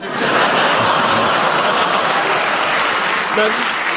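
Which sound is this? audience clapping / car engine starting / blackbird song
audience clapping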